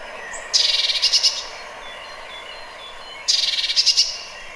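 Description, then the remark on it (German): A bird gives two bursts of rapid, high-pitched chattering call notes, each lasting under a second and separated by a short pause, with no talking. “So, jetzt kommt mal der Ruf.”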